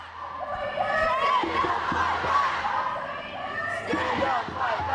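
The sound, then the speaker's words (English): A large outdoor crowd at a No More rally in Brisbane on Saturday, marching against domestic, family and sexual violence, roars and cheers continuously, a dense wash of many voices shouting together at steady loudness, with occasional sharper calls rising above the din. “In Brisbane, crowds gathered on Saturday as part of nationwide No More rallies, calling for stronger action to end domestic and sexual violence.”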